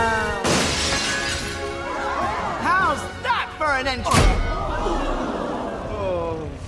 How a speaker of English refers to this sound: High Five crashes through the ceiling onto Superbot.